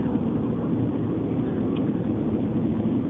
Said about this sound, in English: Well, that engine sure sounds nice.